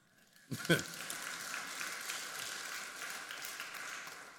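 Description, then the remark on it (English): An audience breaks into applause during a sermon, starting suddenly and holding as a steady wash of many hands clapping, with a few cheers rising over it near the start. “Somebody should clap right there.”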